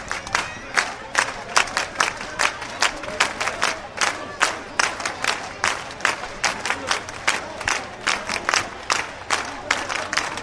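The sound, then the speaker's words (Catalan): A marching crowd arriving in Móra d'Ebre claps in steady unison, sharp rhythmic beats about twice a second, over a constant murmur of voices and cheering throughout. “Una marxa que arribava a Móra d'Ebre amb aplaudiments.”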